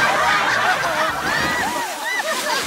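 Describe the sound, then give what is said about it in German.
Water jets spray and splash in a steady rush for a few seconds as water is aimed at a fire, with excited voices calling out over the noise. “Wasserdüsen! Marshall, der sich als Clown verkleidet hatte, machte die Düsen startklar und das Wasser traf erst genau den wasserscheuen Rocky”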